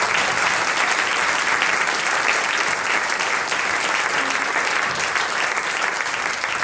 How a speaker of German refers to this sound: Ich glaube, der Applaus, der zeigt das jetzt, dass die Leute sagen, macht's unbedingt weiter so.